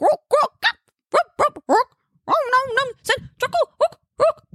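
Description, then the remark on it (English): A single voice belts out rough, guttural barked syllables in short choppy bursts, a harsh growling chant with a dog-like bark quality, loud with brief pauses between phrases. It is a goblin song sung by Wallace as a traveling song. “Wallace cleared his throat and then barked out a guttural.”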